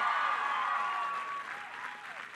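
crowd applause

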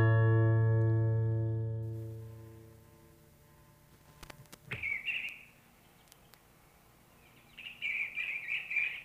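birdsong

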